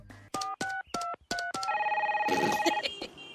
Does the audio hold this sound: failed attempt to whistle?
no